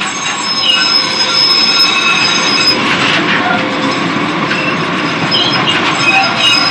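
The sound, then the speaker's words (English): A United train pulls out of a depot right next to the speaker, rumbling past steady and loud, with wheels squealing against the rails in high-pitched whines throughout and a constant low mechanical roar underneath. “As a United train comes out of the depot next to me.”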